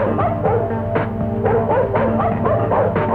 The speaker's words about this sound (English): Well, that's Dog Wonder. Wonder Dog himself.